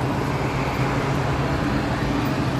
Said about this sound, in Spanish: Este era el ambiente y el sonido en la estación de servicio Los Ángeles Gas en la avenida do Porto.